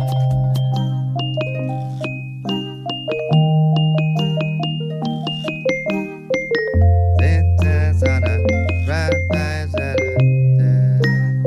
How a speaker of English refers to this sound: And to be clear, it doesn't cut into the real song for the lullaby. That would scare the crap out of the baby. There's a baby's like, wah! It's just xylophones, twinkling bells, and childlike percussion.